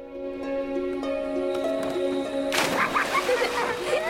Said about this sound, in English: Children, including … and her sister, play happily by the river in the village, jumping off the jetty.